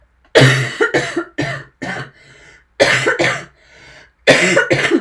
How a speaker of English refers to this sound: Cough warning.